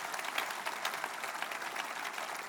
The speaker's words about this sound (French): Est-ce qu'on peut applaudir le plus grand de tous les miracles?